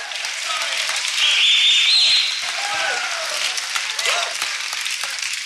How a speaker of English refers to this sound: Come on, put your hands together. Oh, I'm preaching a whole lot better than you clapping today.